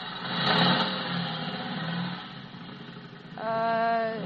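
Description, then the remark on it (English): A motorcycle engine revs loudly, its roar swelling and easing, then climbing again into a sharp, rising whine toward the end, with no voices. “Somebody must have given him a motorcycle.”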